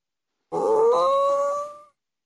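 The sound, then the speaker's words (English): A single drawn-out growling roar voiced by a person imitating Papa Bear growling in a story, lasting over a second; loud, with a rising, strained tone before it fades. “Papa Bear growled. What did Papa Bear sound like? Roar.”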